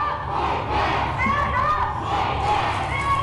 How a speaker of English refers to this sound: The group chanted that they were going to stand up and fight back as they plastered the street, sidewalk, and plenty of the building with red paint.